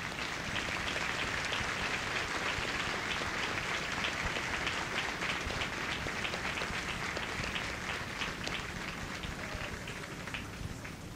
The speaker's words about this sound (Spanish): A todas las familias, un aplauso lleno de afecto.